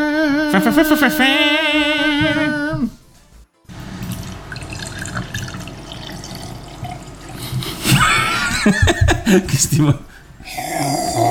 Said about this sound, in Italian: Tra l'altro io ho un collega che ha il singhiozzo così. Quindi ho riso tantissimo.